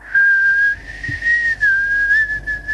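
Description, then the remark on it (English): A bird at a window whistles a long, steady high note that wavers slightly in pitch, loud and unbroken for nearly three seconds with no voices. “Oh, it's a bird.”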